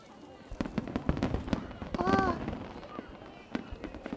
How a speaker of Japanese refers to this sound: 花火始まっちゃうよ。